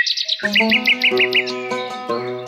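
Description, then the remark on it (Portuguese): Birds sing with quick repeated chirps and high tweeting notes, clear, layered over a steady tonal musical background with no one speaking. “Aqui, os pássaros cantam.”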